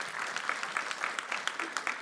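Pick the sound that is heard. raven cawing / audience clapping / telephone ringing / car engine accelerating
audience clapping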